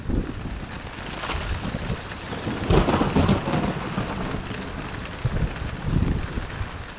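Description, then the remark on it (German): Heavy rain pours down steadily onto a children's playground with a dense, hissing patter, swelling in intensity at moments, while low rumbling thunder rolls underneath. No voices are present. “Inzwischen prasselt heftiger Regen auf den Kinderspielplatz nieder.”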